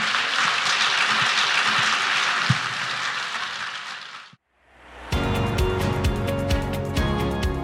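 Loud, sustained applause from an audience for the guests, a dense wash of clapping lasting about four seconds, then a brief silence before music starts.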